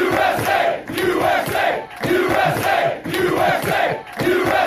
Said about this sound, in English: It's the Ryder Cup. The crowds today doing the USA chant, I'm here for it, man.